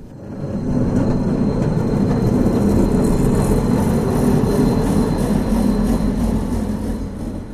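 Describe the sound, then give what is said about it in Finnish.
A tram rumbles steadily at an outdoor stop in freezing weather of -17 degrees, a loud continuous low mechanical drone with a faint whine above it, sustained throughout with no voices. “Ulkona raitiovaunu pysäkillä ensimmäinen ajatus on pakkanen.”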